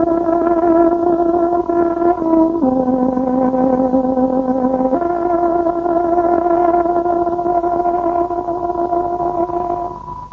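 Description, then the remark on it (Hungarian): A tárogató plays a slow, loud time-signal tune on Radio Free Europe's Voice of Free Hungary, marking 11 o'clock, with long, reedy held notes that step between a few pitches, no talking, fading slightly at the very end. “Tárogatónk hangja 11 órát jelez.”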